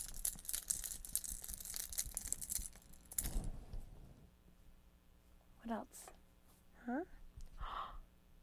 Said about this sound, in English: Keys. Look. What do you think of that? You want to play with these?